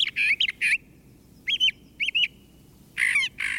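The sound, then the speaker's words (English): A brown thrasher sings short, raspy whistled phrases, several of them given in quick pairs, with brief pauses between bursts; there is no talking. “Brown thrashers also learn songs from nearby birds and add them to their repertoire.”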